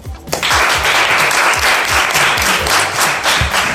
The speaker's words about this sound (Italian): benvenuti, fatemi un applauso!